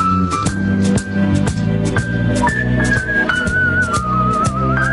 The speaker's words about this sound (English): When people whistle, that usually means somebody's in a good mood. Not me, I'm just whistling because... I'm just whistling to be whistling along with the song.